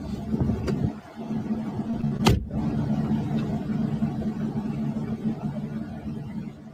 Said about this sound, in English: Another car pulling up.